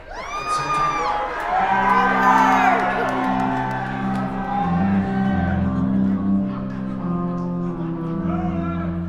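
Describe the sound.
A large concert audience cheers and shouts loudly, calling out a song title, with scattered whoops and yells rising over a steady roar of voices that carries on throughout.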